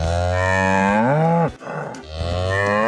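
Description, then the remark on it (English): A beef cow moos loudly, a long low bellow rising in pitch, then a brief noisy pause before a second drawn-out moo begins. No voices are heard. The sound is used as a cue on WRCO radio. “Starting May 20th, listen for the sound of our beef cow sizzle on WRCO.”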